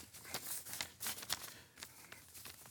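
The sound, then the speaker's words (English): Black paper rustles and crinkles in a quick series of soft, scratchy bursts as it slides into an envelope, fairly quiet with no voices. “It's like God, like putting this black paper in this envelope.”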